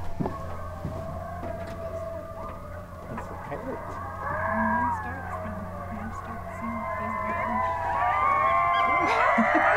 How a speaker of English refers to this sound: Right now, you might be wondering what all these dozens of coyotes are all howling about.